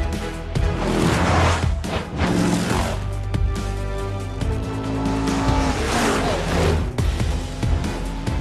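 Four cars race toward the listener at speed, engines roaring loudly and continuously for the whole stretch, with bursts of tire squeal and skidding cutting through.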